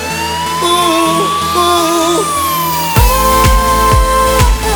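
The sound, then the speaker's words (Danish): Wailing emergency sirens rise and fall with alternating tones, layered into a musical track. A sweeping whoosh climbs, then heavy rhythmic drum beats kick in beneath the siren for the last couple of seconds. “Hør sirenerne kalder på mig i det fjerne.”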